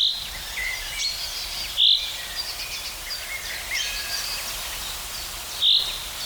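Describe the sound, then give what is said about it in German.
High, thin bird song as heard in Brandenburg and Berlin, with a dry, cricket-like chirping quality: a steady faint trill runs throughout, broken by two brief, brighter and louder notes. No one speaks. “Bisschen wie eine Grille, sagen viele.”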